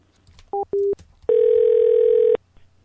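A telephone dial tone after a hang-up: two short electronic beeps, then a loud, steady, mid-pitched hum that holds for about a second before cutting off. No one speaks.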